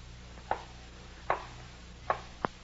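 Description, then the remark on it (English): Four sharp knocks on a dungeon wall, made with an earthenware jug and answered from the other side. They are unevenly spaced: two slow single raps, then two quicker ones close together. Each is brief and fairly loud against a faint steady hum, with no voices. “Each time I knocked, the knocks were repeated on the other side of the wall.”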